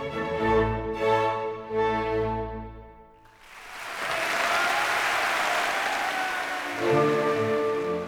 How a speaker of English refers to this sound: When the concert ended, a mere 30 minutes later, it was met with rapt applause. The audience had just witnessed a true genius.